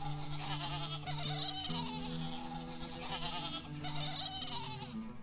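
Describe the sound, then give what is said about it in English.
Several goats bleat loudly, their wavering, nasal cries overlapping in a continuous chorus that swells twice over a few seconds, with no talking. “And all the goat sisters would come and stand in a line.”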